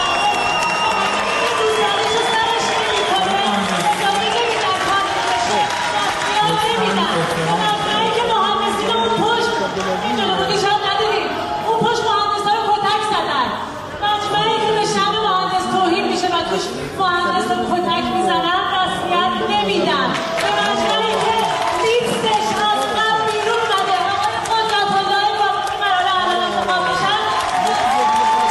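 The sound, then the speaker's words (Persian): A large indoor crowd of engineers at the Engineering Organization assembly electing its board applauds steadily for the whole stretch, with loud cheering, shouts and overlapping voices mixed into the dense, continuous clapping, in response to a woman engineer's protest on stage in which she threw down her headscarf. “بله، این حرفا و این اکت اعتراضی با تشویق بیشتر حاضران مواجه شد که نشون میداد اکثر غریب به اتفاق مهندسا هم از این وضعیت دلشون خونه.”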